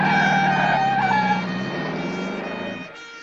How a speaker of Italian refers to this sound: Poi arrivò un'ambulanza. Mi caricarono su una barella e mi trasportarono al pronto soccorso a sirene spiegate.